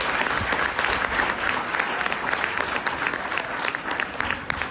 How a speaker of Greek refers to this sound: Κατά συνέπεια, αξίζει στο Υπουργείο Παιδείας ένα θερμό χειροκρότημα, διότι σκέφτεται το σχολείο.